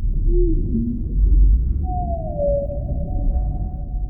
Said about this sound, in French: Tout ça ne semble pas un si gros effort pour pouvoir continuer à entendre le chant des baleines et s'émerveiller à les observer.